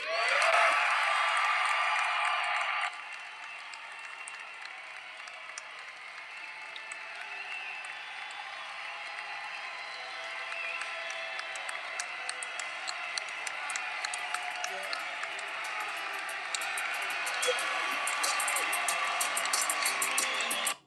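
Sustained applause from a large crowd standing and applauding Matty Davis, a dense wash of clapping that is loudest in the first few seconds, then continues steadily with scattered sharper claps and faint cheers throughout.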